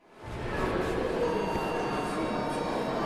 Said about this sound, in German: Eingewickelt in Mantel und Schal sitzt sie bequem in der Ankunftshalle des Bahnhofs in Przemyśl auf einer Holzbank.